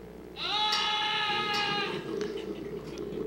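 A single drawn-out human scream from someone in the control room, loud, lasting about a second and a half with a wavering, bleat-like quality, then fading into a rumble of background noise.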